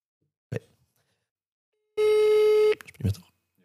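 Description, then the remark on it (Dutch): A phone call's ringing tone while calling a friend to ask about a Christmas tree: one loud, steady, buzzy electronic beep lasting under a second, set between two brief bursts of voice. “Of we kunnen even die vriend bellen om te vragen hoe de kerstboom er nu bij staat.”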